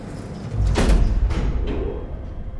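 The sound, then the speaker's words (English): Elevator doors slide shut with a brief rumbling whoosh and a soft thud as they meet, followed by a couple of fainter mechanical bumps settling into a low hum. “The elevator doors close, and they stand inside.”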